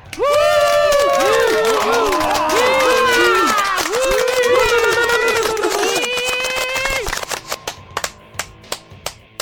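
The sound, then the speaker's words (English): A loud crowd cheers and whoops with many overlapping voices, then the roar fades into a few scattered, sharp handclaps near the end. “Whether that cheer was for me or manservant Hecubus, or both, I'm not sure.”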